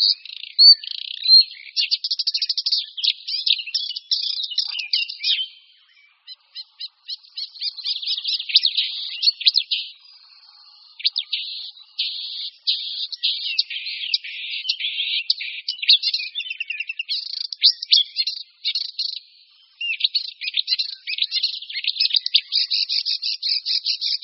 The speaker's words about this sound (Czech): prvků imitujících nejrůznější jiné ptačí druhy, to je charakteristické pro rákosníka zpěvného. Do svého zpěvu vplétá hlasy stehlíka, vrabce polního, síkorek, kosa, skřivana polního, prostě všech ptáků, se kterými na svém hnízdišti přichází do styku.